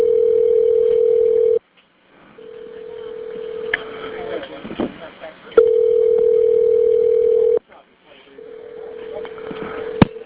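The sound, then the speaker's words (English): A phone call to Myrtle Beach 911 rings: four long, steady ringback tones about two seconds each, separated by short pauses, with faint background noise and murmuring underneath. “Good Lord, it keeps ringing and ringing.”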